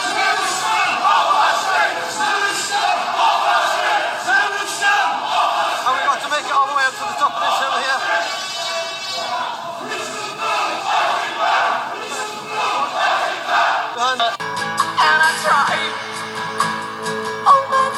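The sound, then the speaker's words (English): A loud protest crowd in Birmingham, England chants and screams "Terrorist scum off our streets" together in a dense, continuous roar of raised voices, which cuts abruptly to upbeat music for the last few seconds. “They had a protest screaming, "Terrorist scum off our streets."”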